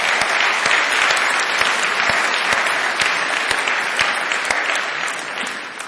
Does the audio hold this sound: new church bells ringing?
no